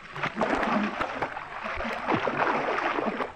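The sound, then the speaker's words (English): Steady, churning splashes of water fill the whole moment, a busy wash of sloshing and slapping as two men flounder in the sea, with no one speaking. “floundered in the cruel sea.”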